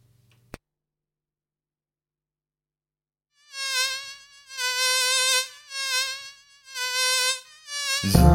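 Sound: mosquito buzzing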